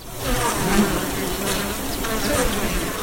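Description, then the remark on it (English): A dense swarm of bees buzzes steadily at wooden beehives lining a small valley in a village, once a favorite elephant crossing, a continuous droning hum with overlapping wingbeats that rise and fall slightly in intensity, with no voices. “wooden beehives line a small valley that was once a favorite crossing for elephants.”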